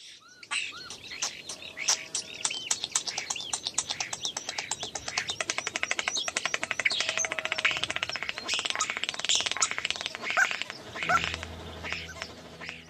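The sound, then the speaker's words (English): A bird on a farm mimics a mechanical farm pump, singing a rapid, steady stream of clicking, chirping pulses like the pump's repeated strokes, running continuously with no voices. “And this bird was singing the song of some of this machinery. It was singing the song of a pump, of a mechanical pump that had obviously been active around this farm and used by the people that had lived there.”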